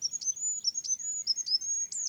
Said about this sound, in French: Je pense aux animaux qui produisent des sons qui peuvent être un peu au seuil de notre perception. Des petits oiseaux comme le roitelet, par exemple.